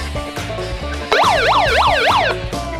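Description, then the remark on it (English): A loud siren wails in quick rising-and-falling sweeps, about four cycles in just over a second, cutting in abruptly over a low steady background hum and then stopping. “Speaking of sirens.”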